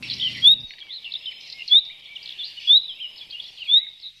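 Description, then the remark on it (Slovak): Birds sing continuously in a bright, high warble, with four sharper rising chirps standing out at regular intervals; a brief low hum fades out at the very start. “Keď počujeme spievať vtáky počas dňa, znie to tak veselo, príjemne, ako by im nič nechýbalo,”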